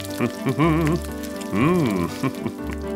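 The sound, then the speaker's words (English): Food sizzles and crackles in a pan as a man cooks at a beach party at night, a steady hiss running through the whole clip while a voice sings or hums over it in rising and falling tones. “My dad is cooking.”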